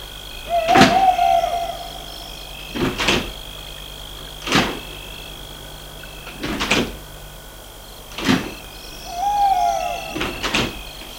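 Car doors open and shut one after another as people get out of a car stopped near a field, about six solid thumps spaced a second or two apart, with a couple of brief squeaks over a steady outdoor hum and no talking.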